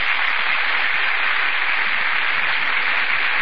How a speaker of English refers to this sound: That burst of applause, ladies and gentlemen, is for Vivian Lee and Laurence Olivier, who have just entered from the wings.